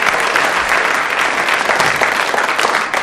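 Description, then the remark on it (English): An audience claps steadily for four audience members who came up and held a bottle, a dense, loud wash of hand claps that stays even throughout with no voices standing out. “A round of applause for the four gallant members of the audience who came and held a bottle there.”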